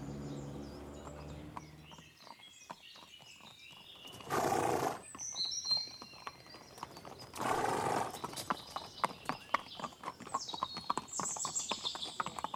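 horse hooves clip-clopping

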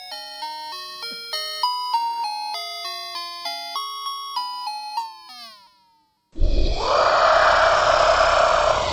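dragon roar sound effect

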